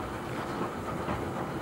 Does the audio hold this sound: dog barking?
no